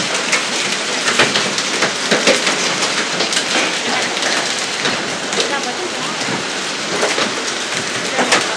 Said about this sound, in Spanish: Buenas tardes, tremenda granizada, la que está cayendo, pero tremenda. Granizada brutal.